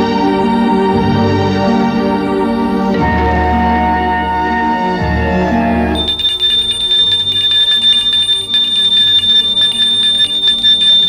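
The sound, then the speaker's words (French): Loud, sustained ringing of bells fills the scene, layered metallic tones droning on continuously and shifting to a brighter, higher chime partway through, with no voices. “Elle est réveillée par des bruits de cloche.”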